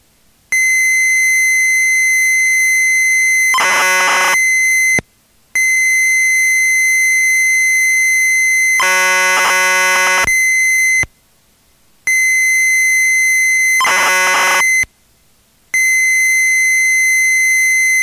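A computer loads a program from cassette tape after the L key and Return key are pressed, taking about one minute: a loud, steady high-pitched whine, interrupted by several short bursts of harsh warbling data noise and a few brief pauses. No one speaks.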